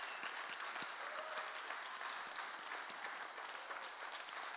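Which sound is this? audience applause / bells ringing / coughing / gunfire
audience applause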